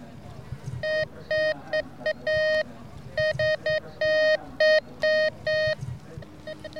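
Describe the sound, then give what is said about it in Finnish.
A metal detector at the Suviseurat summer gathering emits a run of bright, electronic beeps in short and long bursts, loud, over a low rustling background with faint voices, signalling a buried 50-cent coin. “Nyt tää alkoi piippaamaan.”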